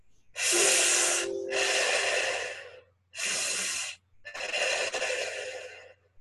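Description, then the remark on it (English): Four loud, breathy airflow bursts: long hissing inhales, partly pitched, breathed in through a straw, alternating with forceful blown-out exhales, with short pauses between. No one speaks. “And now breathe in the second breath as they're breathing in through a straw and blowing out.”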